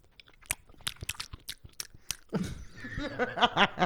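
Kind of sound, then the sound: food or drink, smacking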